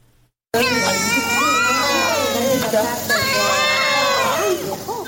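Newborn conjoined twins, together weighing about 4500 grams, wail loudly and continuously at the Nasai Waladi maternity hospital in Herat, their high, shaky cries overlapping and rising and falling after a brief moment of silence.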